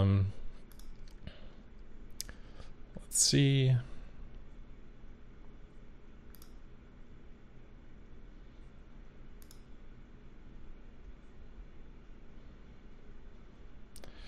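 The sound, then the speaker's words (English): Scattered typing clicks tap away irregularly at a soft level on one of two computer keyboards used for a live stream, with a brief spoken remark early on and a steady low background hum throughout. “So I'm running two keyboards here, live stream stuff.”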